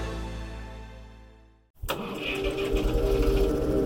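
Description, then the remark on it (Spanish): A steady low drone fades to a brief silence, then a sharp click and a heavy diesel-like tractor engine cranks and catches, settling into a loud, rumbling idle. Antonio Villas-Boas starts the tractor, with a plough hitched, in a field near São Francisco de Sales, southern Brazil. “Verifica que el arado esté enganchado al tractor y pone en marcha la máquina.”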